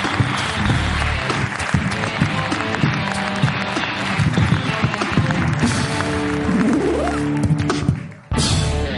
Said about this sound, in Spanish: Un aplauso para Okuda en la Resistencia.